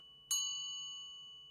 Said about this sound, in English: If I hit the bell here, we can start our music like this this morning.